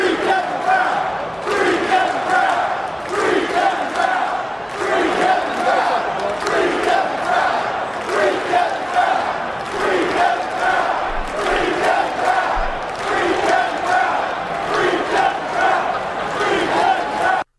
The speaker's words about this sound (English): The crowd in Camden Yards last night, in between pitches at one point, clear as day, loud, full voice, chanted, "Free Kevin Brown, free Kevin Brown." Here's how it sounded.